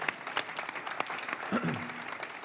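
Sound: audience clapping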